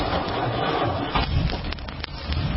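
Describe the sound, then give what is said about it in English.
The straight-eight engine of a 1930 Packard 740 car revs with a low, steady rumble under a rough, crackling roar, broken by a few sharp clicks toward the end. No one speaks. “I love the revving of the engine.”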